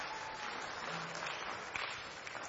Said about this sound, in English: All right. Give those guys one more round of applause. Good job.